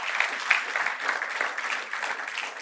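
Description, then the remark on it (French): An audience at a church service applauding God steadily, a dense wash of many hands clapping at a moderate level with no voices standing out, holding evenly for a few seconds. “Est-ce qu'on peut applaudir notre Dieu?”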